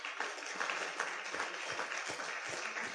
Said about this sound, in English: Now for the rest of us, and you included, because let's get them a clap. Welcome into the family.